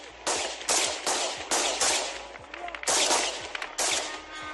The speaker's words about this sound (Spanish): esos 5 drones, presuntamente de origen iraní, que han sobrevolado Kiev, causando al explotar al menos 3 fallecidos. La policía ucraniana intentando repelerlos con disparos.